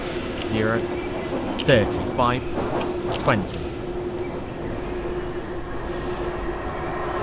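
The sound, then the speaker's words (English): Steady rail rumble with a constant hum, as another train runs past; brief muffled voices surface near the start before the noise carries on evenly. “Oh, there's another train. Passing external.”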